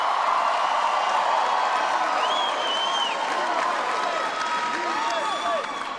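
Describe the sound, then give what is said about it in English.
A large crowd roars with steady, loud applause and cheering, shouting "four more years" as it waits for Vice President Cheney at the lectern, with whistles and scattered shouts rising above the dense wash of clapping throughout. “He stepped to the lectern there, and he's now waiting for the crowd to calm down just a little bit as the shouts of four more years continue.”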